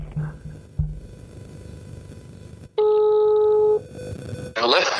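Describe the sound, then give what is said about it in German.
A telephone dialing tone sounds once as someone places a call, a steady, loud electronic beep lasting about a second, set among low background noise and brief muffled sounds before and after. “Ich rufe ihn jetzt einfach mal an.”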